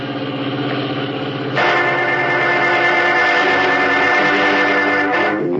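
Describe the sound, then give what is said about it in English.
A station wagon's engine hums steadily, then swells into a louder, rougher rumble that holds as a continuous idle as the car stops beyond a tree-hidden curve in the road, with no voices. “Ominously, Big George Latimer directs Blake to stop the station wagon beyond a tree-hidden curve in the road and leave the car, preparing a trap which he says will remove Batman and Robin from his trail for good.”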